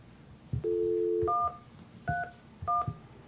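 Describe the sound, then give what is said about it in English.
A brief steady dial tone, then three crisp touch-tone keypad beeps pressed one after another with short pauses, each preceded by a soft click, as someone makes a phone call, with no voices. “I can go ahead and make a phone call here.”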